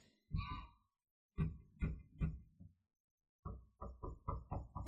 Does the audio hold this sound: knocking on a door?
yes